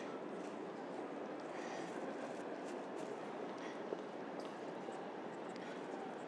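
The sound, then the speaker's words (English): Steady, fairly quiet ambience of a railway station platform where lots of people are hanging about, a continuous wash of rumble and hiss with faint scattered clatter and no clear voices standing out. “lots of people hanging about at this end. Stand there, Vance. Need to look at the trains.”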